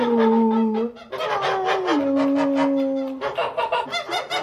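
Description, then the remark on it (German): Twelve geese honk loudly in a continuous chorus of overlapping, nasal calls, with some held notes and choppier bursts toward the end, in a goose stall beside the pig pen on a farm. No one speaks. “Ihre Passion auf dem Bauernhof ist das Federvieh. Die 40 Hühner und die 12 Gänse.”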